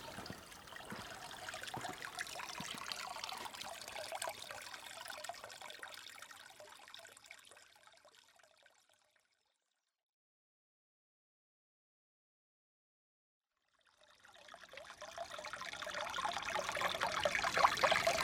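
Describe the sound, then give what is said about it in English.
Steady flowing, trickling water with a hissy rush, gradually fading to complete silence for several seconds before swelling back in, louder than before. No voices are heard. “Here, I'll fade out to the sound of the water flowing.”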